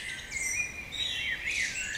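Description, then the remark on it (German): Several birds chirp and warble together in a steady, layered chorus of high, bright calls, with no voices. “Das Vogelgezwitscher.”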